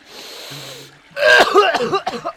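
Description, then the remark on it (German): A short stretch of steady low background hum, then loud, harsh coughing: three or four rough bursts in quick succession that trail off unevenly. “du darfst nicht so laut husten.”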